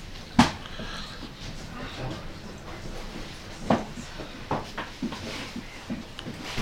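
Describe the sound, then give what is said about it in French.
A door is pushed shut with a sharp knock near the start, followed a few seconds later by a softer second bump, against a low, steady background. “Laissez un petit peu la porte ouverte, s'il vous plaît.”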